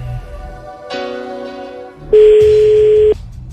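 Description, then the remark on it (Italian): An outgoing call's ringing tone: one loud, steady electronic beep lasting about a second, preceded by a quieter buzzy line tone, with no one talking. “Vediamo dopo quanto tempo risponde, perché una persona gentile dovrebbe rispondere dopo due squilli, perché se tu non rispondi subito non sei gentilissimo, eh?”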